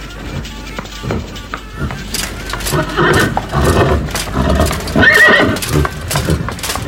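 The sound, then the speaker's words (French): Several horses neigh and whinny loudly while hooves clop busily underneath as they line up at the starting line of a tournament race, a crowded, restless scene with a sharp high whinny standing out near the end. “Tous les chevaux se placent sur la ligne de départ.”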